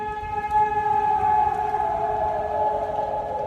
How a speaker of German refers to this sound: Meine Familie und mich hat es aufgeschreckt, das Sirenengeheul. Es alarmierte die Nachbarschaft, unser Viertel, ja die ganze Stadt. Hamburg hielt am Sonntagabend den Atem an. Was war das? Klingt so ein Fliegeralarm?